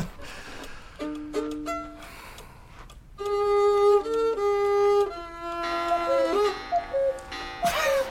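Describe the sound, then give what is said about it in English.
A cuckoo clock sounds off with a run of clear, sustained piping notes at shifting pitches, ending in a brief bright burst near the close, with faint ticking underneath and no voices. “I've never been upstaged by a cuckoo bird.”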